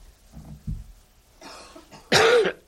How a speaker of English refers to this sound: Please excuse all my coughing today.